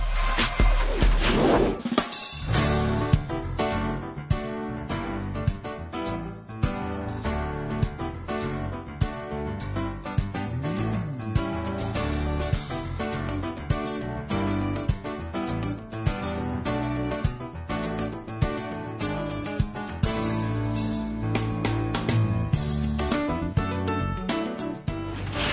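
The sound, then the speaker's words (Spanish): A steady, full-band piece of instrumental music plays throughout at an even, fairly loud level as a short musical break in the radio program Momento Económico, with a regular rhythmic pulse and sustained harmonic tones, and no one talking over it. “Bueno, vamos a hacer un pequeño corte musical y regresaremos.”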